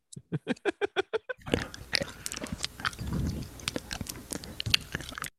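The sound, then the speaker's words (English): Loud, amplified chewing sounds edited together: a quick run of about eight rhythmic crunchy bites, then continuous wet, squelchy munching and smacking, like an animal grinding grass. “it's like a cow eating grass.”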